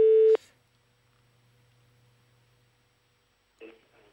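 A loud, steady telephone ringback tone from a call placed by Radio 24 to a man's mobile phone sounds briefly at the start, then cuts off into near silence with a faint line hum before a short burst of a voice on the line near the end.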